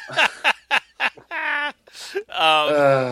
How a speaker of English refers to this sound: Is that a bird? No, that it's the dog with a squeaky toy. Dog with a squeak toy.